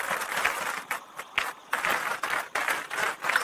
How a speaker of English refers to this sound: Man. Another round of applause, man.